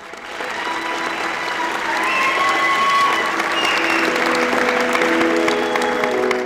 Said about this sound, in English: Throughout the entire show, the full auditorium cheered, laughed, and applauded every performer from the age of 3 all the way up to high school seniors.